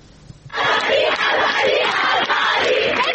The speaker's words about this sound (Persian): فریاد اعتراض دانشجویان در ده‌ها دانشگاه ایران روز چهارشنبه به مناسبت 40 مهسا امینی، زن 22 ساله اهل سقز که در بازداشت گشت ارشاد جان باخت. تجمعاتی که تا ساعتی پیش در شب ادامه داشت، مثل اینجا در کوی دانشگاه تهران.